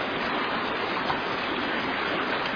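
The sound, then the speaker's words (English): A steady rush of creek water flowing over rocks, a continuous bright babbling with no pauses and no voices. “You look down through here along the creek.”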